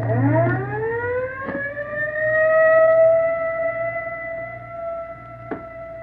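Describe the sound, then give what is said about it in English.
An ambulance siren winds up into a loud, sustained wail that holds steady, with a low engine-like rumble underneath and a couple of sharp knocks. “Johnson's in the ambulance.”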